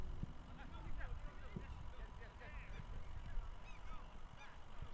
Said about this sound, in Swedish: Några måsar svävar över Östermalms idrottsplats i Stockholm.